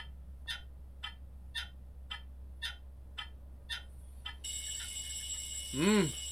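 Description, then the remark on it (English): A clock ticks steadily, then an alarm clock bursts into loud, continuous ringing at 6 o'clock in the morning. Near the end, a short groaning voice rises over the ringing. “I'm awakened by the sound of the noisy alarm clock.”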